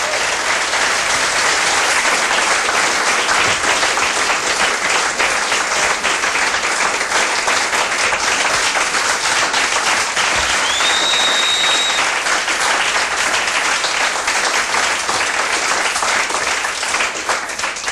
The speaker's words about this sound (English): If I'd known you were going to clap that long, I would have waited longer to come back out.